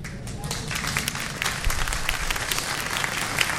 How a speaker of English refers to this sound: That's the parents clapping, by the way.